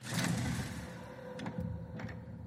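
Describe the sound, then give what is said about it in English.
A heavy black door grinds open in the video game Skyrim as the player heads up the stairs and outside, with a low rumbling scrape throughout and a few short clicks near the end. It is fairly loud, and no one speaks. “Alrighty, we're heading up the stairs, outside, out the black door, as you can hear.”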